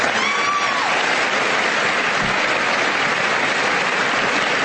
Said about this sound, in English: Okay, and anybody in the Congress stands to applaud.